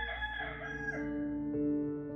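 A rooster crows once, a loud, drawn-out cock-a-doodle-doo with a strained, rising-and-falling tone that fills about two seconds, with no other voices around it.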